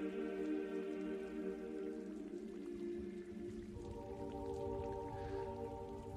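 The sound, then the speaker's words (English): Steady, slushy, icy rain falls continuously, a dense patter of drops spread evenly across the whole stretch, mixed with a sustained low tonal drone and no voices. “It rains from time to time, a slushy, icy rain that forces you to find cover.”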